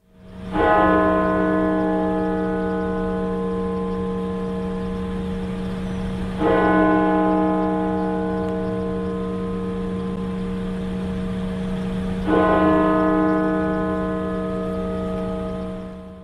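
church bells ringing

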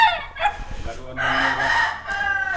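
rooster crowing

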